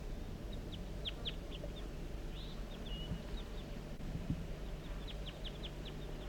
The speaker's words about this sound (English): So recording, I'm on my way down the hill and I've met up with crossbills, perhaps the same birds as before. Yeah, looks that way. A juvenile? And the male? That's the male.